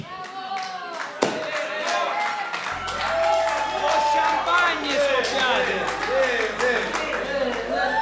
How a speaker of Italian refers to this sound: Un applauso, ragazzi.